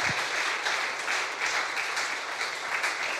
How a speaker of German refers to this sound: Applaus